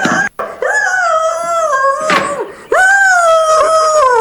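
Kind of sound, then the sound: animal, dog howling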